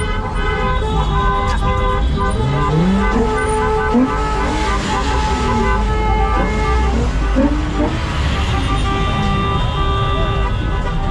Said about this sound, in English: All these folks are not moving. These folks are in traffic, actually. They are stuck. Yeah, this is the real stuck traffic. They ain't going nowhere. Because this is a one way, it only goes to the left, and no one's moving.